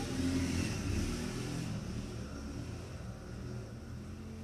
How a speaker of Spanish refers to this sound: Una disculpa en las motos. Es que, o sea. Es algo que. Es lo que es la intemperie de grabar en mi cuarto.